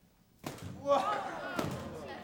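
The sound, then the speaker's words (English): A homemade drum is struck twice, giving loud, dull thumping slams about a second apart, with some voices and noise ringing underneath. “So we made a drum by covering your ears. It's really loud.”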